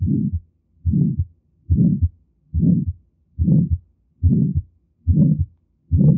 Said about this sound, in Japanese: これは先天性のものです。1音と2音が聞こえています。そして、荒々しいダイヤモンド型雑音が収縮中期に聞こえています。